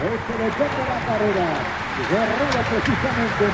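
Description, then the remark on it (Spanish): A steady, rain-like whirring hiss of a bicycle race peloton's wheels and gear changes as it passes, with no spectators present, continuous and fairly loud, with several voices talking over it throughout. “Eso no es la lluvia, sino es el sonido de las ruedas.”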